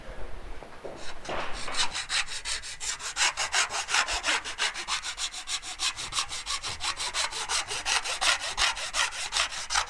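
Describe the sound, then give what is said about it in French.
A file rasps along the sharp edges of an engraving plate, bevelling them so they cannot cut the paper, in quick, steady back-and-forth strokes, a bright, gritty scraping that keeps an even rhythm throughout with no voices. “Je vais faire les biseaux, tu vois, parce que les bords sont tranchants.”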